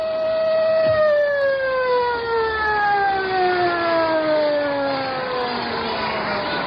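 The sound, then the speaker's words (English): A loud siren winds down, its rich harmonic wail sliding steadily lower in pitch over several seconds like a moan, still sounding strongly as it descends. “The siren moaned to stillness, but there was no peace.”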